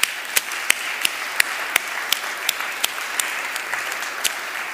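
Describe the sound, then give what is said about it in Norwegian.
A church service audience applauds a 12-year-old boy who runs the pictures, steadily, a dense wash of many hands clapping with a few sharper individual claps standing out at a regular, brisk pace. No one speaks over it. “Og midt I tallene også har jeg lyst til at vi gir han en klapp.”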